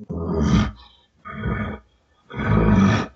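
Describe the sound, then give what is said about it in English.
A hunter forces three loud, breathy pants through a calling tube, imitating a bull elk. Each gruff, rumbling burst lasts under a second, with short pauses between them and no talking. “If he doesn't, I keep the raking up, and now I start panting through the tube, and I kind of give him that.”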